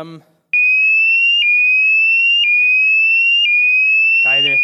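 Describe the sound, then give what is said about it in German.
A fire alarm, set off as a joke during a sermon, blares with a loud, steady high-pitched electronic tone that rises slightly in repeating cycles of about a second. A voice speaks briefly just before it starts and again as it ends. “Feueralarm.”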